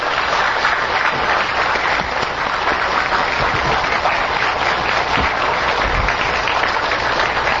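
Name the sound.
warm audience applause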